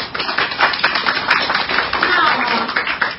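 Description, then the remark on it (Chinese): A crowd breaks into steady applause for the invited main speaker, a member of the Tibetan Parliament-in-exile, at a public dialogue: a dense wash of many hands clapping at once that holds fairly loud for a few seconds with slight swells in intensity. “那我们今天邀请到的主要的讲者是洛桑钦觉，西藏人民议会的议员，我们先给他一个掌声好吗？”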